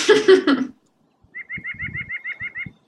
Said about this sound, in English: There are some birds up there, the nuthatches, and they go, hah, hah, hah, hah. Well, it sounded like they were laughing at me for choking down this terrible food.